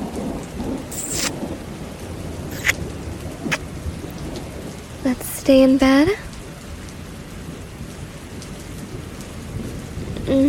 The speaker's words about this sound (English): It's so cold. And raining.